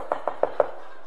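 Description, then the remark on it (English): Four quick, evenly spaced knocks on a wooden house door, fairly crisp, followed by silence with no voices. “He didn't even answer the door.”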